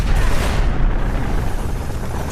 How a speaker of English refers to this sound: Something big just went kablooey 5 blocks south. Heat signature's off the charts.